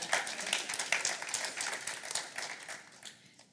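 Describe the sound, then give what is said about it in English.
An audience breaks into applause, a dense patter of many hands clapping at once that holds steady for a few seconds and then tapers off toward the end. “Yeah, you can clap.”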